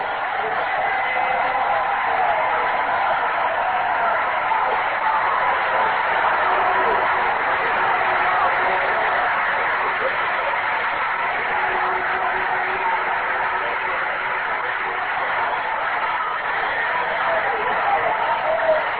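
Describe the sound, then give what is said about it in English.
A large baseball stadium crowd gives a long, sustained ovation for a right-handed pitcher coming back on short rest in the eighth inning, a dense, steady wash of applause and cheering that holds at an even level throughout, sounding somewhat muffled. “Ovation for this right-hander here as this crowd appreciates him coming back with short rest.”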